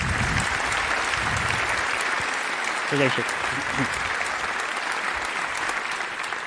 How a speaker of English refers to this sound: So please welcome, with a very warm applause,